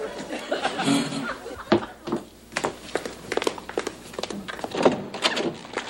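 A door is opened to answer a visitor, with a few soft clunks and rattles while a studio audience chuckles and laughs in the background, with a brief murmur of voices.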